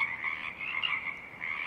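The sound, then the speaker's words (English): A dense chorus of Pacific chorus frogs at Tectaxan Marsh on Saturna Island, British Columbia, calls continuously, many overlapping croaks rising and falling together above a stiff breeze, a steady breezy hiss underneath and no voices. “the song of the Pacific chorus frogs, rises and falls above a stiff breeze.”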